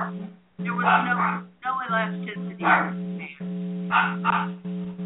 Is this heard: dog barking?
yes